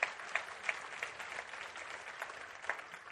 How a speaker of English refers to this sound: Come on, give him another good clap off. Would you do that? Come on.